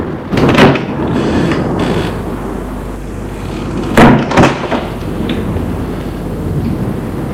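household object, door opening

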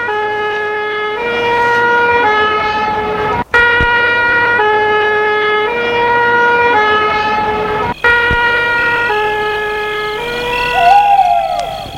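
vehicle, ambulance siren arriving

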